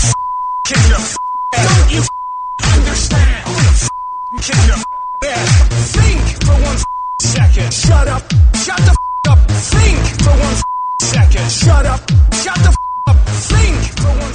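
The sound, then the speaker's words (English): Steady high censor bleeps sound again and again, alternating with loud, choppy bursts of an agitated voice in a rapid, stuttering rhythm, the speech cut up in an online remix of a Christian Bale rant. “Funnier without the beeps, if I could be so bold.”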